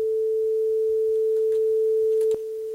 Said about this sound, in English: So there's one sine wave.